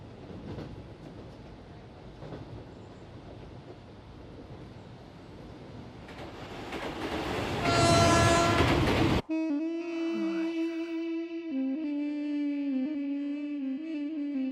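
A steady rumble of a train on the rails builds into a loud metallic squeal, then cuts to a sustained droning, tonal hum. No one speaks.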